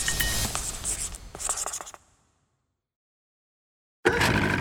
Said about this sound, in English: This time he wrote a word on the piece of paper. And that word was palace.